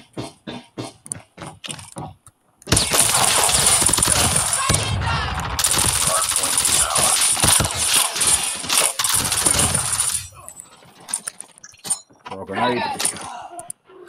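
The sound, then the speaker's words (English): A burst of video game gunfire roars continuously for several seconds, dense and loud with sharp metallic crackle, framed by brief bursts of speech before and after. “I'm going to shoot.”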